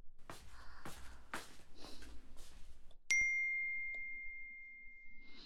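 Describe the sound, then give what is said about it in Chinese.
A single bright electronic ding rings out clearly and lingers with a long, fading tone, announcing an incoming text message, following a stretch of soft rustling and shuffling noises. “居然有一条短信，这是谁？”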